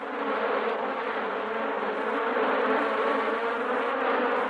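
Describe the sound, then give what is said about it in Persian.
A dense, steady drone of many honeybees buzzing together, loud, holding an even hum for the whole stretch with no voices. “وقتی زنبور عسل به کندو میرسه، شهد جمع‌آوری شده رو به زنبورهای کارگر منتقل میکنه و یا به صورت نارس اونها رو رها میکنه و مجدد به سمت جمع‌آوری شهد میره.”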